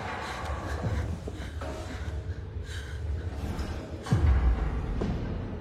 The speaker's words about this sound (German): es sieht so aus, als läuft ein Pferd durch den Speisesaal